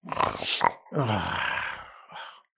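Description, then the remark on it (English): A person vocally imitates snoring: a rough, grunting inhale followed by a long rattling, groaning exhale, with a short breathy snort at the end, fairly loud. “Did you say snoring? You did a good job.”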